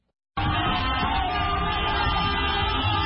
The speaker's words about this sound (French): Coup de klaxon, chant, cri de joie, la libération d'Ousmane Sonko et son numéro 2, Bassirou Diomaye Faye, a été accueillie dans une grande liesse. Plusieurs milliers de Sénégalais ont manifesté dans toutes les villes du pays, comme ici à Mbaou,